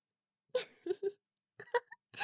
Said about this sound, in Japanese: なんですか、情けない泣き声出して。